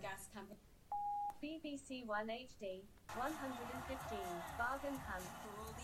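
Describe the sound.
A single short, steady electronic beep at a mid pitch from a Sky Q TV set-top box, after a voice request for BBC One, cuts in between bursts of speech, followed by voices continuing over fuller, louder broadcast-style sound.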